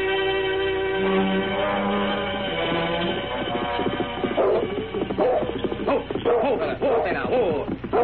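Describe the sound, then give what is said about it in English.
A dog named Wolf barks repeatedly and whimpers, its sharp, uneven yips and whiny cries crowding the second half, following a steady, sustained musical drone at the start. “Quiet, boy. Now, Wolf, you stay here.”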